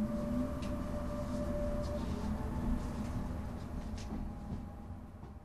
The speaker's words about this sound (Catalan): Ara sóc als ferrocarrils per anar cap a Catalunya Ràdio